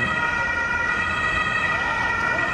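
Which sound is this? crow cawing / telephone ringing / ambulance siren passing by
ambulance siren passing by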